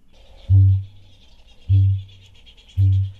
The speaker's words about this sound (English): It's an adorable flightless parrot that lives on isolated islands off the coast of New Zealand. Yes, we are listening to the sound of the kakapo.